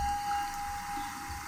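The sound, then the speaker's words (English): A rain stick pours out a steady, continuous rushing patter like trickling water, with a thin sustained whistle-like tone running underneath throughout. “I've brought my rain stick and bird sounds today, and my gong.”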